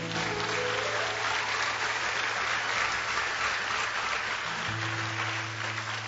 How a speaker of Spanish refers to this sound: ¿Cuántos le dan un aplauso a Cristo, hermanos?